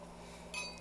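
glasses clinking

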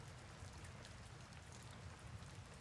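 rain falling

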